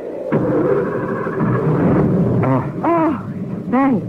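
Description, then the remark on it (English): A car that has just crashed into boulders rumbles and strains as it is tried to be moved, then revs up and down in several rising-and-falling bursts, loud, with no voices present. “Will the car move?”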